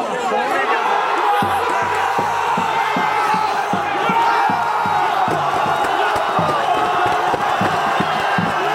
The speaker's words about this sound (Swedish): Ett plötsligt och innerligt målbrål från västra Stockholm. Ett eko, en signal som hörs och betyder långt, långt därifrån.